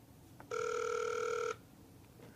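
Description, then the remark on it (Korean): A single ringback tone plays over a speakerphone while an outgoing phone call waits to be answered, one steady electronic burst lasting about a second, fairly loud and clear against a quiet background with no talking. “왜 전화를 안 받으시지?”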